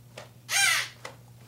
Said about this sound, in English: What the... The fucking crow.